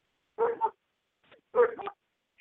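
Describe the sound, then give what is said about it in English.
Two short bursts of dogs barking, each a quick double bark, sounding thin as if heard over a phone line, with a brief faint sound in between. “I hear dogs barking.”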